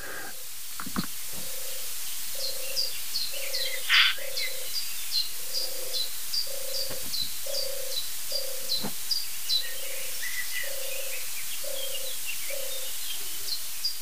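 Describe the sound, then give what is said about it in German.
Two small doves, a typical small South African dove, coo steadily in a soft, low, repeating rhythm, each note short and evenly spaced, with faint high-pitched chirping from other birds or insects in the background. “Es sind definitiv zwei Tauben.”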